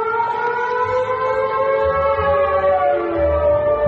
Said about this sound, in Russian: Второй год в городах России звучит сирена.